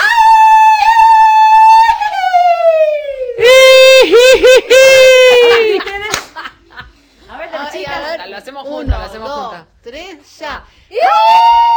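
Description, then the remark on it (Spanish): A loud, sustained high-pitched festive shout, the traditional grito chayero of the chaya festival: a long wavering cry with trills and yodel-like breaks, delivered by a single voice, followed by a few shorter bursts. “Eso es el grito chayero. El mío, más o menos así.”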